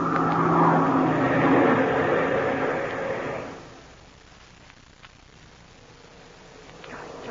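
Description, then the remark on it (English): A loud airplane engine roars steadily for a few seconds, then throttles down abruptly to a much quieter, low rumble that carries on to the end. “The plane's going down the line, Frank.”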